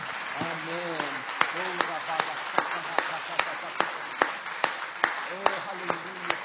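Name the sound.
audience applause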